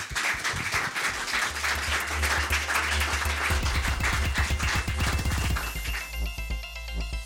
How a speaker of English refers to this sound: With that, round of applause for our panelists.